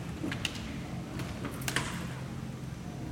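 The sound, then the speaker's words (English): A side window being closed: a few soft knocks and scraping creaks spread over a couple of seconds, fairly quiet, over a low steady hum, with no one talking. “I'm going to go around and close the side windows, and it might make a creaky sound, so make it a little quieter in here.”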